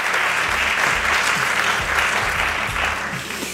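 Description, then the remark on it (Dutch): Sustained applause from an audience, a dense steady patter of many hands clapping at an even, loud level throughout, easing off slightly at the very end. “Geacht publiek, we hebben jullie nog niet gehoord, maar geeft u hen een overdovend applaus.”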